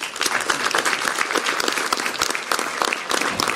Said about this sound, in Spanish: Así que con eso, gracias y realmente un aplauso para la comunidad completa, por favor.